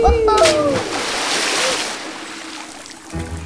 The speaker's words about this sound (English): Looks like we're falling into a huge lake. Hold on, everyone. We're coming in for a wet landing. Get ready for a splash.